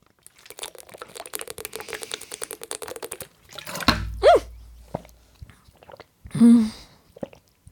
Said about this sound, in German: Hörsturz für jeden gerade wahrscheinlich, ne? Ich bin gerade mit der Flasche gegen das Mikrofon gekommen. Hoffentlich nimmt das Mikrofon noch auf, das ist ja jetzt die Frage.